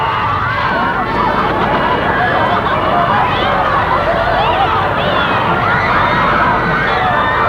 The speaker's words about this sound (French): Dehors, il y a des gens court dans tous les sens. L'immeuble objet qui sont été jetés à terre au milieu des cadavres, des blessés qui crient du sang. Ça crie dans tous les sens.